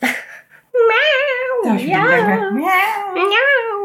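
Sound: cat meowing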